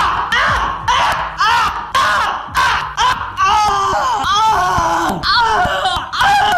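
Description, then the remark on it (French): A man lets out loud, strained, pained screams and wails in rapid succession while painting, some drawn out and wavering, harsh with no talking in between. “D'abord, il émet un long cri, comme s'il était physiquement blessé.”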